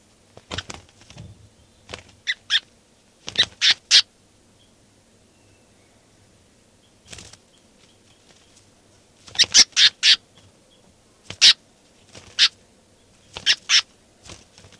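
A bird held in the hand, identified as bird 392, gives loud, harsh squawking calls in irregular bursts, some single and some in quick clusters of two or three, separated by short stretches of quiet with a faint low hum underneath.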